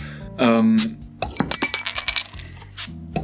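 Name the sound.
beer glasses clinking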